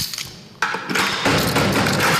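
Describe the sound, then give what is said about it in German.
A key turns in a heavy lock with a sudden metallic clunk, followed by a continuous rattling scrape of metal as the head of the detention department unlocks one of 12 holding cells at the district court in Hannover, Germany, with no voices. “Leiter der Haftabteilung, schließt eine von 12 Zellen auf.”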